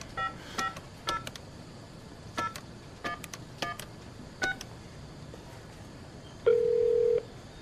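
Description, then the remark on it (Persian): A telephone number written on a card is dialed as a quick series of about ten keypad tones in uneven clusters, followed by a single longer, steady tone, all clear, with no talking. “بیا این شمارهشون روی کارت نوشته زنگ بزن ببین چی بهت میگن.”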